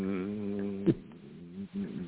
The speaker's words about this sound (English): Are we hearing somebody snoring Who knows?